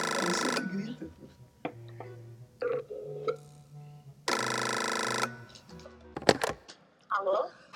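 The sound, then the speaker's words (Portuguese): An outgoing phone call rings out twice, each buzzy tone lasting about a second with a long gap between, while people talk and shuffle in the pauses. “Tá ligando, vamos ver se funciona.”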